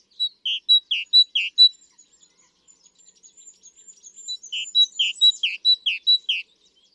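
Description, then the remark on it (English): A songbird sings two bursts of five or six loud, high, clear notes in a steady rhythm, with soft, quick twittering between them and no voices. “I thought it'd be then good to listen to a bird that it sounds like it's singing a song, but actually there is a big group of birds called the songbirds who have to learn their songs.”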